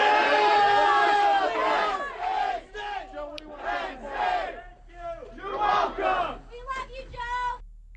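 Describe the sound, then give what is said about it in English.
A large crowd gathered near Joe Paterno's house roars and cheers him, breaking into rhythmic shouted chants in bursts, loud and continuous with swelling voices over about eight seconds. “They didn't come to lynch him for sweeping rape allegations under the rug, allegedly, but to cheer him.”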